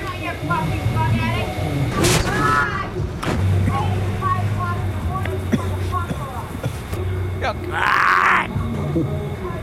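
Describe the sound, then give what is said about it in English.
A woman screams out of her upstairs window at people on the floor below, telling them to stop their loud music, in drawn-out, strained bursts above a busy street, with traffic rumble and other voices in the background and a harsh, rising shriek near the end. “So she's screaming out the window at them. And so that's her scream.”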